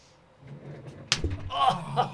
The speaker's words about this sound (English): So you got to hit it here. Oh, do it again, I was going to make a slap noise.